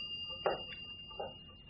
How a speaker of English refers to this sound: Now, who can that be knocking?